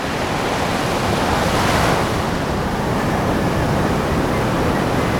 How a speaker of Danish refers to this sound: Gulvet bliver en maritim malstrøm, og bølgerne bruser ud af højtalerne.